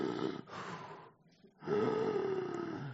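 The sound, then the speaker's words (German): Heavy, labored breathing of a dying man in his bed: two rough, rasping breaths, a short pause, then a long, loud groaning exhale with a throaty, snore-like rattle. No talking. “man hört nur Atmen, der schwere Atmen von …”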